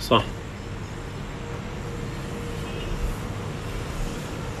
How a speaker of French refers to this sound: On vient maintenant d'arriver à Idlib. On est sur la place centrale. Il y a pas mal de circulation autour de nous.